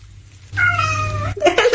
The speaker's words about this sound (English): Right. So there's a lot of hellos from kitties.